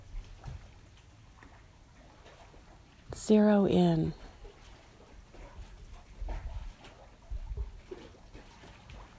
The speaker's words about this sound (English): I invite you to really listen to the sound of the water.